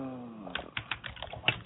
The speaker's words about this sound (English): I hear some typing.